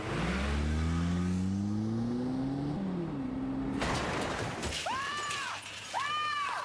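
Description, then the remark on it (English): A car engine revs and climbs in pitch for a few seconds, then the car is driven into a brick wall with a loud crunching crash and breaking debris, followed by a couple of shouted voices. “when they drove the car into that brick wall, it was probably the funniest thing I've ever seen in my life.”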